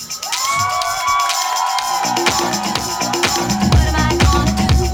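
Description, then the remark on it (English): A loud live crowd at a nationally broadcast radio show screams and cheers continuously, with high-pitched shrieks and whoops rising over a dense wall of applause-like noise, with a low thumping beat creeping in toward the end. “your screams will be heard nationwide on XM Radio”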